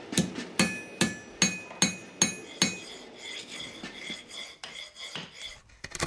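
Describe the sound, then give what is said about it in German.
A silver spoon being hammered by hand, forged the old-fashioned way by a silversmith in her workshop on a farm: seven steady, evenly spaced blows ring out brightly with a metallic tone, followed by softer, scattered taps and clinks. “Jeg laver smykker, og så smier jeg skjeer fra den på den gammeldagse måten.”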